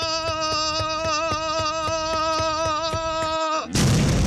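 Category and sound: sound effect, bomb explosion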